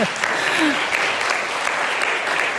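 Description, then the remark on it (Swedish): An audience claps steadily for a few seconds, a dense, even wash of many hands with no voices standing out and no clear rise or fade. “Det är väl nästan värt en applåd, eller hur?”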